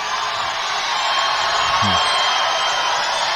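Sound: crowd cheering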